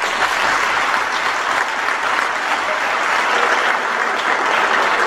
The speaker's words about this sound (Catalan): crec que cada any ens anem superant i cada any anem augmentant, no, el nivell, tant a nivell de disfresses, a nivell de carrosses, crec que cada cop anem una miqueta més i demanar un aplaudiment per totes les colles i per la feina que s'ha fet.